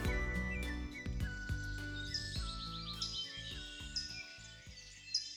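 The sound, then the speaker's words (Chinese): The first birdsong at dawn in Skylark Valley (云雀谷): bright bird calls chirp and trill over several seconds, including a quick run of repeated high notes, set against a soft, steady low background hum, with no one speaking. “清晨第一声鸟鸣在云雀谷响起时”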